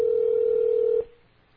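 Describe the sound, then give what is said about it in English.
A steady, mid-pitched telephone tone hums loudly and evenly for about a second, then cuts off abruptly, leaving faint low background noise, as Samuel L. Jackson's character calls a restaurant in a film scene. No one speaks. “He doesn't say that, but he does call the restaurant.”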